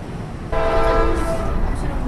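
A train horn sounds one long, loud blast that begins abruptly and then fades, over the steady rumble of a commuter train moving along the tracks on the roughly 25-minute ride from Manhattan to Ridgewood.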